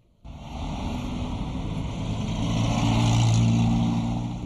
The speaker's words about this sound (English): It's an understatement to say that Baghdad is a congested city. Every street is jam-packed with cars, most of them from the 1980s and earlier.